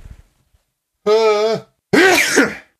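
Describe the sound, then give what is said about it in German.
A single loud sneeze brought on by hay fever: a short voiced intake builds up, then a brief pause and a sharp, noisy burst. Only faint murmuring comes before it. “Ich muss niesen, das ist dumm.”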